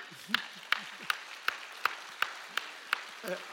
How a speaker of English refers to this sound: By the way, yes, I'm hearing one person clap.